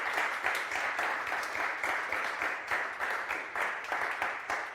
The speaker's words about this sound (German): Ja, finde ich auch, haben einen Applaus verdient.